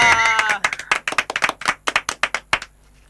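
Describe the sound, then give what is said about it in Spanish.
A short burst of audience applause given as a greeting: a dozen or so sharp, uneven claps over about three seconds, opening with a brief voiced cheer and fading into quiet. “Fuerte hola, el aplauso.”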